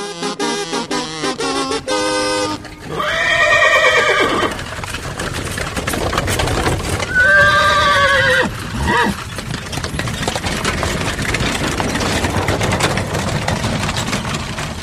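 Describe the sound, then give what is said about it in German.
Two loud horse whinnies ring out a few seconds apart over a steady clatter of hooves and background rumble as Mexican farmers ride on horseback into the congress, after a brief burst of tonal music at the start. “Anfang Dezember ritten mexikanische Bauern zu Pferd in den dortigen Kongress ein.”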